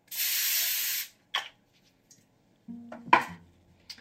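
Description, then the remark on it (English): A steady hiss of cooking spray from an aerosol can, sprayed onto a piece of aluminum foil, lasts about a second, followed by a brief rustle and a light metallic clatter. No one speaks. “And my mom, a little tip, as she makes this recipe all the time, is to spray the piece of aluminum foil with a little bit of cooking spray.”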